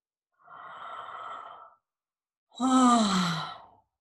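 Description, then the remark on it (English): A long, breathy yawn: a drawn-in breath, a short pause, then a louder voiced exhale that slides downward in pitch and trails off. Nobody speaks. “Oh, yeah, I'm too busy yawning to be able to think about another thing, but I don't have to think.”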